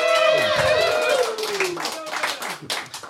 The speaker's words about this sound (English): When you agree with my decision on who wins, I want you to cheer. Give that a shot right now.